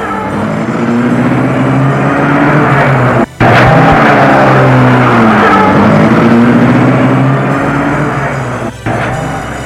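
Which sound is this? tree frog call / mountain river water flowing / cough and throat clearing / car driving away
car driving away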